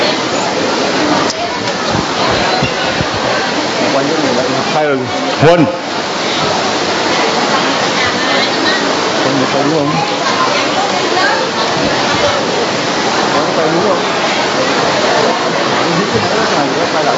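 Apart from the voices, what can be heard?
heavy rain pouring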